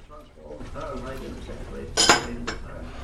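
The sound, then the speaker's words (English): A plate of cooked breakfast of sausage, bacon, egg and toast is set down on a table with a sharp clatter, followed by a lighter clink of cutlery, over a low background murmur of voices. “Downstairs, and wearing a V-neck jumper as well, he sits alone at the table as a woman puts a cooked breakfast of sausage, bacon, egg and toast down in front of him.”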